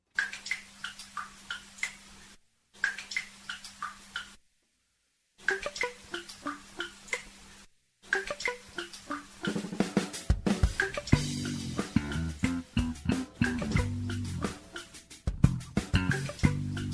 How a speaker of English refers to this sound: Here's another one that he did with his dripping bathtub faucet.